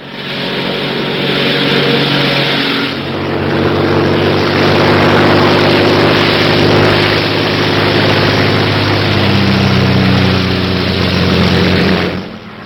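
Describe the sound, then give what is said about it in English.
A Royal Air Force propeller airplane engine drones steadily and loudly in flight over Dover, a continuous rumble with a humming tone that swells slightly midway and holds for about twelve seconds, with no voices. “At this very moment, a Royal Air Force plane is waiting for us at a secret landing place.”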